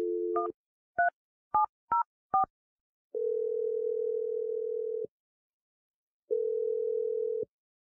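telephone number being dialed

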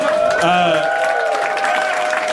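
applause

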